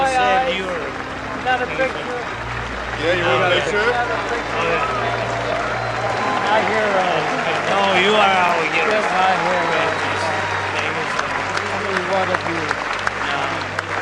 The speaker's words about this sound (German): Wir hören auch ganz deutlich den Applaus des Publikums. Es konnte das Ganze auf großem Bildschirm verfolgen und darauf war dann auch zu sehen, wie sich die beiden Männer fest umarmen.